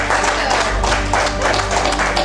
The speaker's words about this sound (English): And I'd love to offer you guys a round of applause for starting this trend.